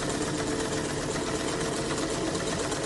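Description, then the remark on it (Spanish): A sewing machine runs steadily with its treadle pedal, heard from upstairs, a continuous dense mechanical whirr and rapid clatter, even in loudness throughout, with no voices. “No tardó nada en descubrir que se trataba del pedal de la máquina de coser.”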